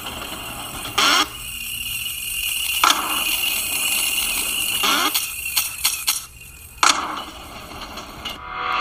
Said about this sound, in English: Now you heard those bells there. That indicates coins.